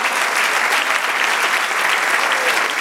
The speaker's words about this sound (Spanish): Dale un aplauso, Señor.